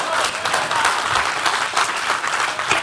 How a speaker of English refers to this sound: Get the Lord a real hand clap right there.